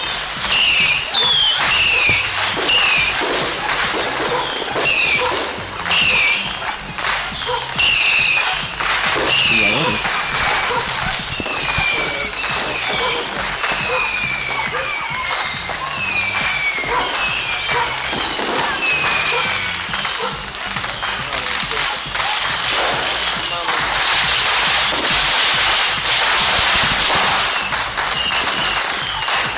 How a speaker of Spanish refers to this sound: No había tantos de estos cohetes que, como las tartas, las ratas blancas. Más que todavía esos cohetes que van al cielo y generan unas luces.